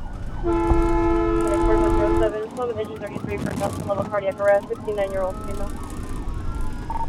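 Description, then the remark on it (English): An ambulance siren: a loud, steady air-horn blast lasting about two seconds, then a rising-and-falling wail over rumbling vehicle and road noise, as a green and white Paramedics Plus ambulance races to a 911 call in Fremont, bumping over train tracks and swerving through mid-afternoon traffic. “We bump over train tracks and swerve through mid-afternoon traffic.”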